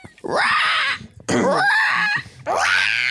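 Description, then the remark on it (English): Three loud, shrill, strained screeches from human voices imitating a raptor's scream, each rising and falling in pitch, separated by brief gaps. “Of like, I can't even do like a raptor scream.”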